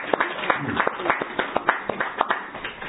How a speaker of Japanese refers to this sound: 盛大な拍手をお願いします。